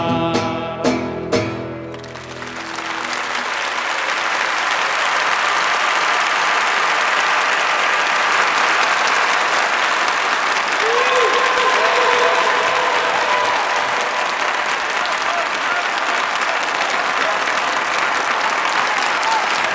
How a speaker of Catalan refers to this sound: Bé, doncs ell donava les gràcies en aquest gran aplaudiment